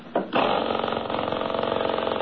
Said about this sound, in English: Hey, listen to this engine run, will you? Here, I'll start it again. Now, listen.